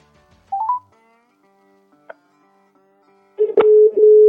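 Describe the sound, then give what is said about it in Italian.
A few quick dialing beeps, a short click, then a steady, fairly loud ringback tone starts as a phone call to a new artist connects and rings. No one speaks. “Squilla, squilla.”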